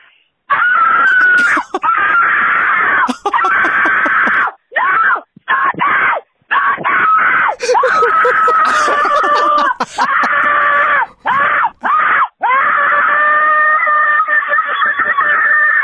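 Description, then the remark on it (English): A person screams at full volume in long strained shrieks broken only by brief gasps, going on for about fifteen seconds with no talking, imitating a TikTok trend of how you sound screaming for your life. “So I saw this thing trending on TikTok, and it's pretty much how you sound screaming for your life.”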